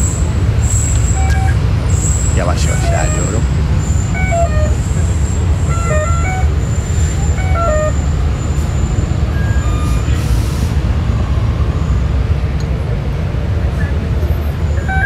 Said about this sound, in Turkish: Gördüğünüz gibi bu otobüsün acayip yolcu var bu durakta. Her otobüs böyle. Akbil seslerinden duyuyorsunuz zaten. Henüz otobüsün içine binmiş değilim.